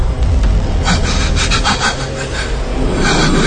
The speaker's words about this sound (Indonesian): Kini terdengar suara nafas berat dan geraman dari sebelahku.